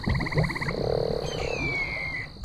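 Swamp frogs croaking in a dense chorus: a rapid, pulsing trill, then a lower throaty croak, over a steady high insect drone, with a thin whistling call gliding downward near the end.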